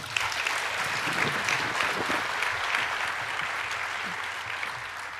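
Steady audience applause, a dense crackle of many hands clapping at an even, sustained level for several seconds with no break, some crowd murmur mixed in.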